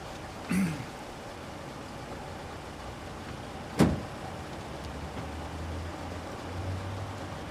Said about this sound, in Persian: چیز خاصی نیست، سپرشه. فقط ماشین روشنه ها.